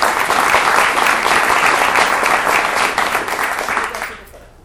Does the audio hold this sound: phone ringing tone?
no